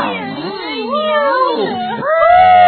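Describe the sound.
A voice imitates a cat's meowing with drawn-out, wavering meows that rise and fall in pitch, loud, over a little under three seconds.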